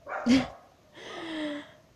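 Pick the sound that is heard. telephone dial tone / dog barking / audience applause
dog barking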